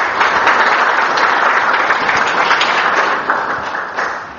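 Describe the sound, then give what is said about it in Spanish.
A crowd applauds steadily to welcome a speaker with thanks, many hands clapping in a dense, sustained patter that holds loud throughout before easing slightly toward the end. No one speaks over it. “Recibámoslo con alegría y con un aplauso de agradecimiento.”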